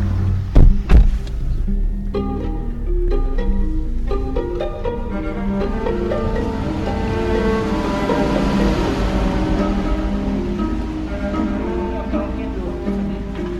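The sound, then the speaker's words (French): Steady, loud road traffic of cars and trucks rumbles outside, a continuous drone of passing cars and heavy vehicles, with people talking over the noise. “C'est affreux dehors, avec les voitures et les camions, c'est affreux.”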